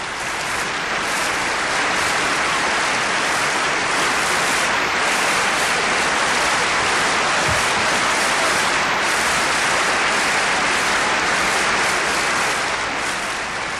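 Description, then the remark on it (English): Sustained applause from a large assembly for the Pope, who raises his hands again and again in acknowledgement, a dense, steady wash of clapping that holds at an even loud level throughout with no voices standing out. “The Pope raises his hands again and again in acknowledgement of the Assembly's applause.”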